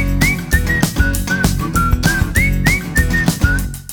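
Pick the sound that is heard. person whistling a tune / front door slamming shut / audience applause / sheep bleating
person whistling a tune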